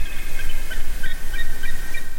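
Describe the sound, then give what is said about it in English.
A bald eagle gives a rapid run of high, thin piping chirps, the notes tumbling quickly one after another at a steady, fairly loud level with no voices. “The American, or bald eagle, has been the symbol of the United States for centuries”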